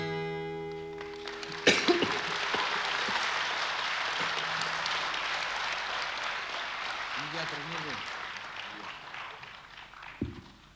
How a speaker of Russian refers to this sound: Простите, ради бога, мой кашель, оказалось, что я еще не очень готов. Простуда еще не переборола концертного состояния, вернее, наоборот.